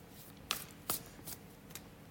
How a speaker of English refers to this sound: I'll be using my own deck, Peace of Mind, an intuitive healing process. And I'm going to start shuffling some cards. Let's see what pops out, eh?